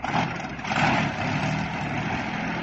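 An engine labours to start, a loud, rough rumble that surges briefly early on, then holds at a steady strained drone. No voices.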